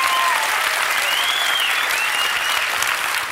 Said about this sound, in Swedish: Henrik Dorsin, tack, fortsätt applådera.